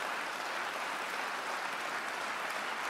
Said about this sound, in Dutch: Kinderen God, is dat niet geweldig, kinderen God? Wij geven een applaus aan de Heer.